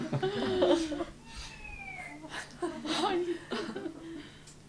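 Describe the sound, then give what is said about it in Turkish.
A cat meows several times in short, rising and falling cries, with a few quick overlapping calls and quiet background noise between them. “Ama kedinin gösterdiği reaksiyon çok tatlı oluyor ya.”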